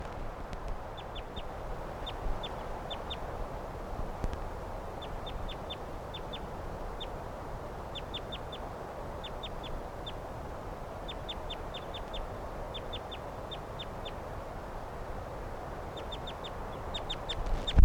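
A flock of five wild birds, all males, calls in quick clusters of short, high-pitched chirps that repeat steadily throughout, over a constant low rumble of background noise; one of the birds has been captured and hangs in a net. No one speaks.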